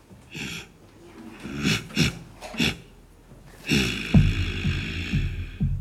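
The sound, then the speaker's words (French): A voice imitates a bear's snorting with a series of rough, breathy snorts, several short bursts followed by a longer, louder growling snort, with no words spoken. The imitation is of a bear heard at night beside a tent, performed while telling the story to a kindergarten class. “Je me dis, c'est un ours.”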